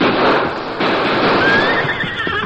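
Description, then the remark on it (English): A horse, with a rope tied for it to pull, neighs loudly: a sustained whinny with a rising, wavering pitch over a dense, noisy background, with no voices present. “I got the rope tied, mister. Can your horse do it? Yes, he can do it. Steady, Silver.”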